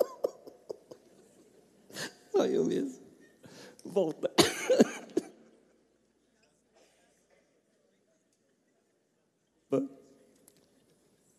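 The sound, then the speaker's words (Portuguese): Harsh, bursty coughing fits after choking on a sip of water taken while speaking, with water coming back up into the eye. Several strong coughs cluster together, then a pause and one more sharp cough; a few brief spoken words mix in. “O que eu mais temo é engasgar. É a primeira. Hoje, tentando ser rápido, voltou água aqui no meu olho.”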